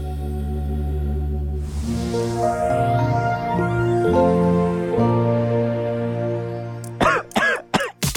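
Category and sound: human body sound, coughing and throat clearing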